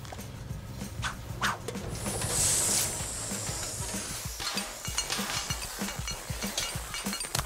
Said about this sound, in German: Sieh doch mal, Schatz, eine Dampfbügelmaschine. Davon habe ich immer geträumt.